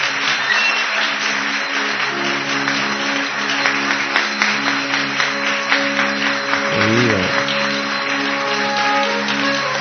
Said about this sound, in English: So please, please help me in giving Maharaj the sweetest applause that you have ever given.